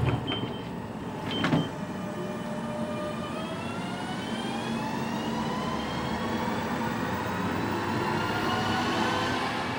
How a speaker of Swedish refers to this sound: Klart för avgång. Dörrarna stängs.